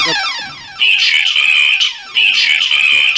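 A loud electronic alarm blares in repeated bursts, a harsh sustained high-pitched tone with a warbling buzz, sounding twice over a falling sweep of tones with no talking.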